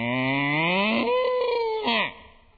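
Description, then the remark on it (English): A human voice imitates a cow, drawing out a single long, rising "moo" that swells and then trails off over about two seconds, loud. “My old cow went.”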